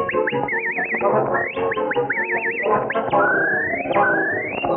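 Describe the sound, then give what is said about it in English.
Someone whistles a lively, bird-like tune with quick warbling trills and upward slides, loud, over a steady musical accompaniment with no talking. “Whistle for me”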